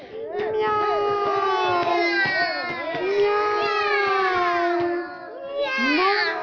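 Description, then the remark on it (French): Voices imitate a kitten meowing plaintively, with long, wavering, rising-and-falling wails layered over one another, loud, filling the whole stretch with barely a pause. “Pourquoi pleurer comme ça?”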